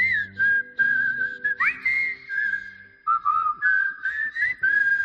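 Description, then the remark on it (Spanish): Someone whistles a tune, a clear bright melody of held and sliding notes with brief breaks, over a soft low background hum. “Que yo les llevo mi coche porque me siento tranquilo, porque me voy de allí silbando.”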